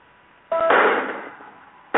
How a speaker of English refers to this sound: All right, so for everybody listening live, they're using one of those battering rams to break down the door. That even looks unnecessary. Like, it looks like they didn't even need to do that.